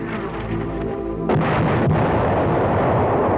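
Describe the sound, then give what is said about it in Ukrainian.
A grenade launcher shot, fired at the exit of a village where a camouflaged checkpoint stands, bursts in after a low droning hum, with a second sharp blast soon after, then a loud, rumbling roar of noise lingers to the end. No voices. “Як бахнуло! Стріляли з гранатомета.”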